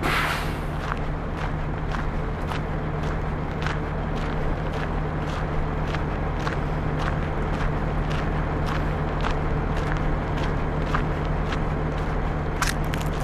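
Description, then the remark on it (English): Massive road trains roll along a highway near a roadhouse in a steady, deep engine rumble with a low hum, while regular footsteps tap along on top throughout. “You can hear some of the massive road trains that go up and down the highway.”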